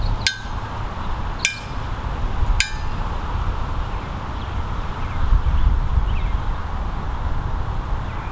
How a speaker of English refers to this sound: We're now about 100 feet away from the two Canon 7Ds with the two Rode VideoMics on them. Let's hear the dinner bell.